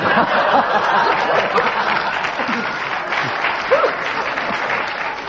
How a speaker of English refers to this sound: I think we'll give you a bonus point for that round of applause, because your remark gained that spontaneous reaction of the audience.